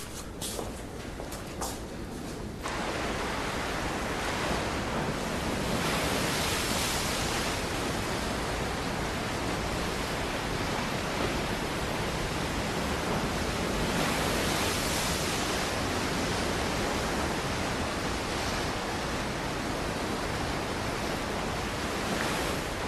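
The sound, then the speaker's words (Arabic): A steady, broad wash of surf from the sea called Mehrdad fills the scene, with waves rolling continuously onto the shore and gentle swells rising and falling in loudness, no voices present. “يسمون هذا البحر مهرداد، فالبحر هو أم الينابيع والأنهار، وجميع مياه السهول والجبال تصب في البحر.”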